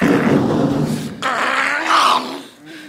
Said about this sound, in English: No! Get your damn dog off of me! He's biting my hand off!